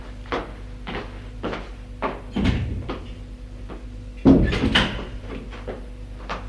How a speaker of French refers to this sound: Elle ouvre une porte.